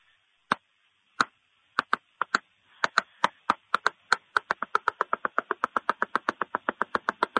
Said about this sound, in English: There's a secret knock. Oh, yeah, yeah. It's super easy to do, but you got to know it, though. It's this.